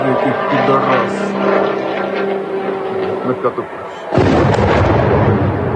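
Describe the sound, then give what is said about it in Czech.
A steady, buzzing propeller drone of Russian attack drones hums overhead during a night attack on Ukraine for several seconds, its engine tone wavering, before a sudden loud, crackling burst of noise abruptly swamps it and continues to the end. “Ruske snage ovako su noćas zasule Ukrajinu dronovima.”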